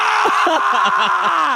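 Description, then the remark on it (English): A man in his living room lets out a loud, sustained raw scream to release rage, one continuous strained yell lasting under two seconds, harsh before cutting off abruptly. “He's just screaming in his living room. What? Just like releasing some rage.”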